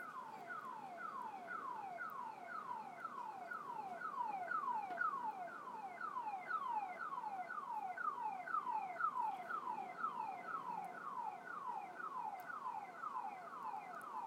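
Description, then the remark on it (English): A car alarm, set off by windy weather, blares across from a big apartment building in a fast, repeating pattern of rapid descending electronic chirps, steady and unbroken for the whole stretch, with no voices. “But yeah, I would say it goes off every couple of weeks or so because of windy weather.”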